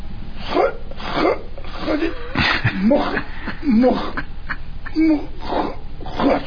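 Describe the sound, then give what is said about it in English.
A person clears their throat several times in a row, with rough, gravelly vocal bursts and short pauses, fairly loud. “No, I was just clearing my throat.”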